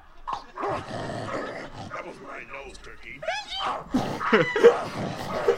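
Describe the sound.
A dog barks and yips in a series of short, fairly loud calls, with people talking in the background throughout.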